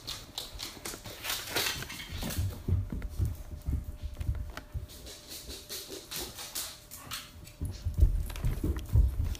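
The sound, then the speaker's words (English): Puppies scramble up a staircase, their paws making rapid, irregular thumps and clicks, with scuffling in between and no one talking. “We are going to go upstairs, and I'm going to let my puppies come with me today because it's a chill day.”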